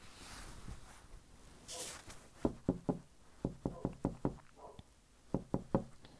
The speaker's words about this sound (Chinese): 敲门声持续了很久，他也不去开门，看样子是躲在什么地方等待看着好戏了吧。